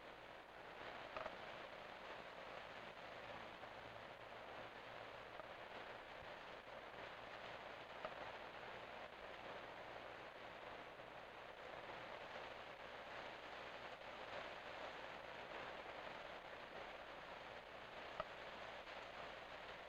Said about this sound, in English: That which you are hearing is the sound of rain. It isn't often you get to hear rain quite this loud,